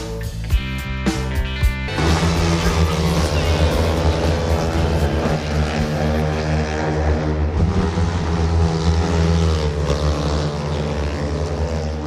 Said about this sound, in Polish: Tęsknimy już za takim dźwiękiem żużlowych motocykli na poznańskim Golęcinie.